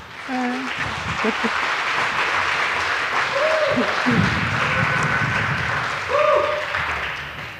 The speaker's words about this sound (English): This time, she talks about hormones and hysteria, and I'm really looking forward to this. So please give a very warm round of applause